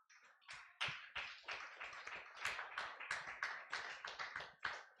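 Audience clapping, a steady run of sharp, bright claps at a quick, fairly even pace for about five seconds, loud and with no talking over it.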